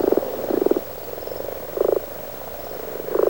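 Frogs croak in repeated bursts, about four low, rattling calls spaced roughly a second apart, moderately loud with no one talking.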